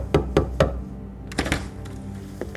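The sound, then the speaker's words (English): Three firm, evenly spaced knocks by John Z. DeLorean on the door of room 501 at the Sheraton Plaza La Reina Hotel, followed by a few softer thumps and shuffling sounds a moment later as he is ushered inside. “John knocks on the door and is ushered inside.”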